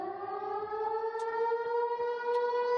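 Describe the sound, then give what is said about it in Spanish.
A loud, steady air-raid siren wails continuously, its tone rising slowly, with faint bomb thuds and crackles beneath it and no voices; a sound effect evoking the Spanish Civil War massacre at Belchite, Zaragoza. “Con estos ruidos de sirenas y bombas está claro que nos retrotraen a un lugar donde se provocó una verdadera masacre en la Guerra Civil Española.”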